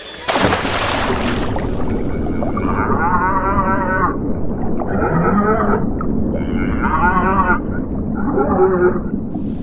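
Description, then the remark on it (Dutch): A loud, heavy splash as a cow plunges into water, followed by several long, wavering moos in separate bursts, with no talking. “De koe is in het water gesprongen.”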